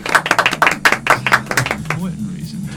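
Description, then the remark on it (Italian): A quick run of sharp, crisp hand claps from an audience in a fairly steady rhythm, thinning out after a couple of seconds as voices murmur underneath. “Abbiamo partiamo con un pubblico applaudente.”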